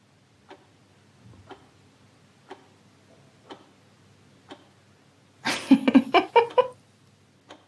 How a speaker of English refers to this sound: Ticking clock in the background. That's apparently how a German registry office sounds like during Corona times.